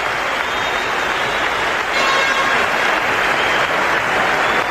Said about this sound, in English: Sportsmanlike crowd here at the Gardens. And they applaud as Mike Bossy is taken off on a stretcher.